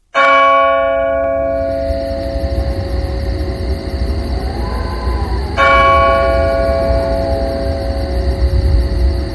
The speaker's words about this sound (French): ces interruptions s'éteignirent et un calme absolu s'installa, coupé seulement par l'horloge de l'église qui nous renseignait sur l'avance de la nuit